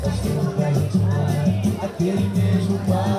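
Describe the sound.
Dense chatter of hundreds of maskless drinkers crowded together outside a bar below Sugarloaf Mountain in Rio, many overlapping voices talking at once in a steady hubbub.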